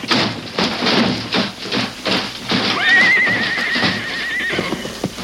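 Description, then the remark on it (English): Horses neigh loudly, one long wavering whinny rising above a dense, rapid clatter of hooves that pounds steadily throughout, chaotic like a galloping team; a runaway stagecoach team out of control whose brakes won't hold. “Rein in your horses. The horses are out of control.”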